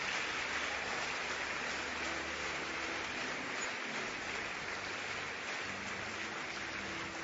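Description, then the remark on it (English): Sustained applause from a large crowd fills the space, a dense, steady patter of many hands clapping at once, loud and continuous without pause or speech, as the audience keeps clapping for people leaving to meet counselors. “Keep clapping until they leave.”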